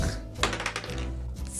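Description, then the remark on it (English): A short clatter of dice rolled across a tabletop for a persuasion roll, a few quick hard clicks and knocks, over a low background hum. “Roll persuasion.”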